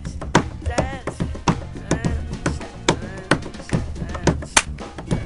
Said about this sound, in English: Are you snapping your fingers there? Is that what that no, is? Someone clapping their hands, snapping their fingers? I'm clapping, but I'm also drumming on the piano wood as well.